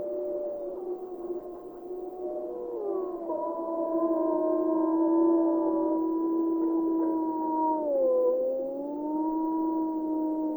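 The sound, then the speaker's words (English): Several wolves howl together in a sustained chorus, long wavering tones overlapping at different pitches and sliding up and down, fairly loud and continuous with no talking. “They also probably use howling as a way to advertise the number of wolves they have in the pack, the type of wolves they have in the pack.”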